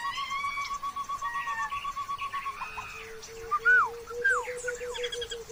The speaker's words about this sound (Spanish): ¡Monos! ¡Monos! Escuchá.